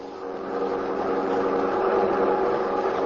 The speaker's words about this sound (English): have released victims and are now fleeing in black Buick sedan along road to Tunica.